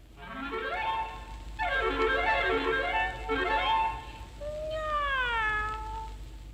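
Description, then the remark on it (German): A cat meows repeatedly in long, drawn-out, wavering cries, four distinct yowls in a row, loud with no talking. “Von Katzen hörtest du mancherlei, drum dieses dir hiermit gesaget sei.”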